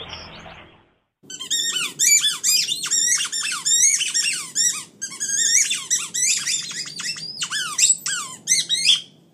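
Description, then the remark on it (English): A dog squeaks a squeaky toy over and over, with loud, shrill squeals coming in rapid, irregular bursts for several seconds after a brief quiet start. “It is an improvisational solo performed by their dog Brio on his squeaky toy.”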